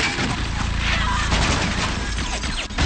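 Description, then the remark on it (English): A loud, nonstop barrage of gunfire and explosions, the cracks and blasts piling into a dense, chaotic roar that fills the whole stretch without a pause. “If you see a Rob Cohen blockbuster, Triple X, The Fast and the Furious, expect plenty of bullets, bangs, and bombs.”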